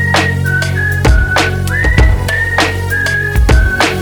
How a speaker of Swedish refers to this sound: Du har hört den förut så du visslar med mig ba.